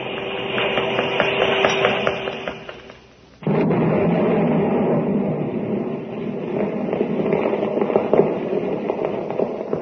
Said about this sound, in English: There it goes. Three whole buildings blown to bits.